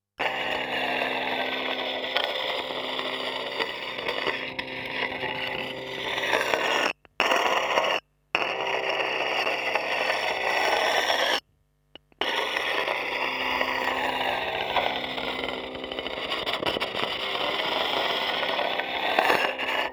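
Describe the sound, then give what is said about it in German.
Continuous harsh, grinding sanding noise picked up through a contact microphone on a laptop cooler, loud, with steady humming tones underneath and a few abrupt silent gaps. “Sie hören Schleifen mit einem Kontaktmikrofon auf einem Laptop-Kühlgerät.”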